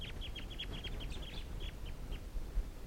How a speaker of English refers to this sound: And it looks like they're going to take off. Wild flock, and the decoys are also calling. That toot there was from 305.